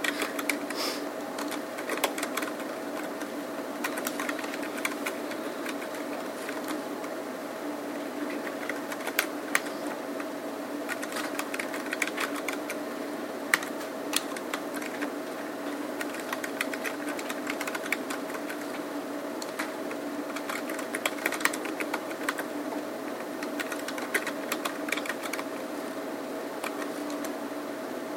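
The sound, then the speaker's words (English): Steady, irregular clicking of fingers typing on a computer keyboard, continuous over a low electrical hum, with short pauses between bursts of keystrokes and no talking. “And this time I'm going to put in two ampersands on first column, which I didn't do on the last one, but I'm getting sick of typing this, so.”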